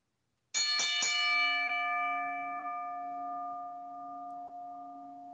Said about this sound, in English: DPP, do me that Flavor Flav and ring the bell.